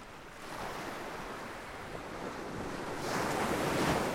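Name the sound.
ocean waves breaking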